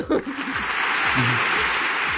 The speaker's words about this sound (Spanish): La ovación.